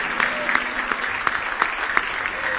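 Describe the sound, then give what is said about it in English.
An audience in a house of worship claps hands in praise to the Lord, a dense, steady burst of applause from many people, with distinct sharper claps standing out in a loose rhythm. “Now give the Lord a big hand clap of praise.”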